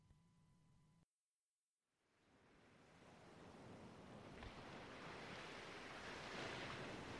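Sea waves wash onto a beach in a steady, broad roar of surf that swells from a brief silence and keeps building, loud, with no voices.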